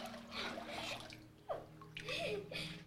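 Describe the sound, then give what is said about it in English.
Water sloshes and splashes in a few uneven surges as a woman is immersed in warm water during a baptism, with a louder swell of churning water near the end and faint voices in the background. “upon your profession of faith in the Lord Jesus, in obedience to our Lord's command, I baptize you, my sister, in the name of the Father, the Son, the blessed Holy Spirit, buried with Christ in baptism, raised to walk in newness of life.”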